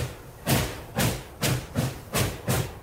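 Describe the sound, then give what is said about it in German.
A steam locomotive starts off and chugs in a steady rhythm, each loud hissing chuff landing with a low thud about twice a second, six beats in a row with no voices. “Zum Beispiel eine Dampflok, wenn die da so losrattert.”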